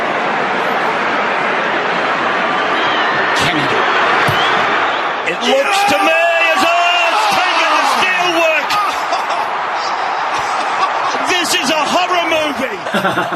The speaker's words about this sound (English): And despite being exhausted, he's got to kick one from the touchline to win his team a premiership. Let's stop and listen to the crowd.